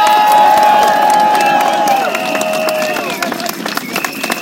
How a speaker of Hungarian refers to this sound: Köszönöm, tapsoljátok meg, kérlek!